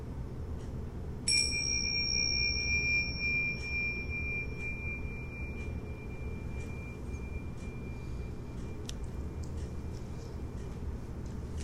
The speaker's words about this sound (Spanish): Ahora, para concluir esta meditación y el escaneo del cuerpo, va a escuchar nuevamente el sonido de la campana y luego va a comenzar a abrir muy lentamente sus ojos.